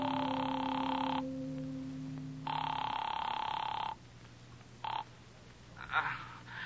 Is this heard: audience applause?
no